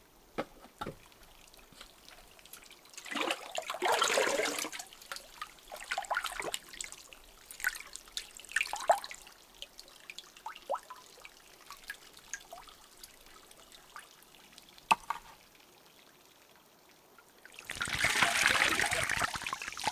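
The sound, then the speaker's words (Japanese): Warm bath water poured over someone to rinse off soap foam, in two rushing, splashing gushes, one early and one at the end, with soft trickles and scattered drips in between. “それでは疲れと汚れの泡を流してしまいましょう。かけ湯をしますので目を閉じてくださいませ。”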